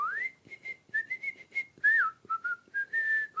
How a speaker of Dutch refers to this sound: Zij fluit bijna de hele dag.